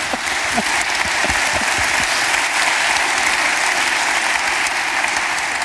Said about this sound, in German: Ich wollte gerade für Folge 1, Staffel 1 danken und ich glaube, das ist auch für diese gute Erklärung ein Applaus wert. Danke.